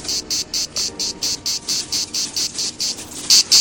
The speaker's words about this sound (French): Tiens, il y a encore toutes ces cigales, vous entendez? On en trouve partout en ce moment.